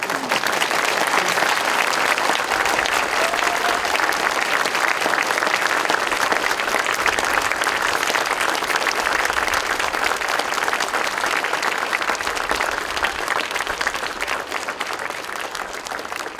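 Sustained applause from a large audience, a dense, steady patter of many hands clapping at once, loud, holding for the whole stretch before easing slightly at the end.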